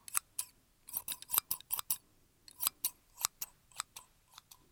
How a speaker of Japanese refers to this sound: 出しっぱなしのハサミさん。